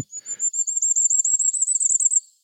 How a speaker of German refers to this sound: Diese Stimme kann man vor allen Dingen Ende März bis Juni hören. Und es ist ein sehr kleiner, niedlicher Vogel. Sehr hochfrequent, wirklich in den Ohren.